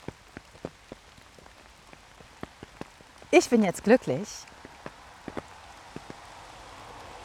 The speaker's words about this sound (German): Ich höre den Regen, der auf dem Schirm trommelt, den hörst du vielleicht auch.